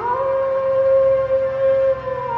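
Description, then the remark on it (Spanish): A dog howls in one long, loud, sustained wail that holds a steady mournful pitch for the full two and a half seconds, with no one talking. “Cuando los verdaderos vieron que Tu Huay De los había desobedecido, se enojaron y decidieron que su castigo sería vagar por siempre por todos lados, aullando por un dolor de muelas al que no hallaría aliciente.”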